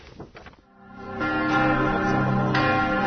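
Church bells atop Vračar in Belgrade, Serbia ring out loud, marking the start of Christmas festivities, repeated strikes blending into a rich, sustained resonant hum after a brief muffled opening.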